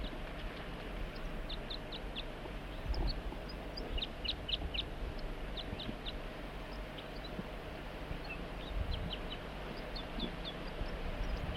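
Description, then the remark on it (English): A wild bird calls in short bursts of high, thin chirps, three or four notes at a time, repeating every second or two over a steady hiss and low rumble. “Start recording the wild bird and 4-3.”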